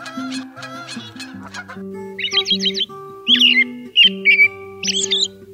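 Clear, repeated whistled phrases of American robin song ring out in short bursts over a steady low droning and honking background, with a few quick chirps at the start.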